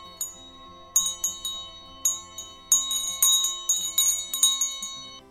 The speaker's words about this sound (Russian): Большой колокол звонит, а маленький колокольчик звенит.